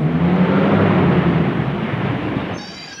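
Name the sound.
car engine pulling up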